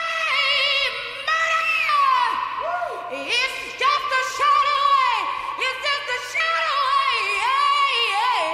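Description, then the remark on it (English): Two singers and the other musicians in a recording studio hoot and holler together, heard on the vocal track of a single. Overlapping whoops and yells slide up and down in pitch, loud and nearly continuous with no clear words. “And they were hooting and hollering and carrying on and, oh my God, if you hear the single version of just the vocal, you can hear … and … and the guys in the studio just hollering and hooting.”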